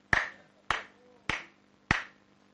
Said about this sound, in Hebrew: תראה איך אני מכבד אותך. עושה מחיאות כפיים.